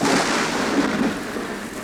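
thunderstorm with rain

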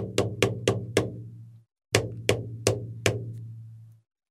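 knocking on a door

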